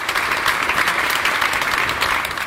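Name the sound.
audience applause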